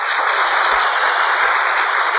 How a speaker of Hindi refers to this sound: हम सभी कुमारों जोर से तालियां बजाकर बड़े भैया का स्वागत करें।